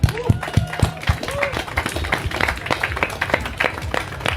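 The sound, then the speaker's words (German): An audience claps and applauds steadily for the people who made the event possible, a dense crackle of many hands with a few whoops and voices mixed in, fairly loud throughout. “Erstmal Applaus für all die Leute, die hier diese Veranstaltung möglich machen.”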